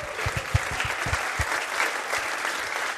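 A small group claps together, a steady patter of many hands with a few sharper, louder claps standing out near the start, sustained for a few seconds.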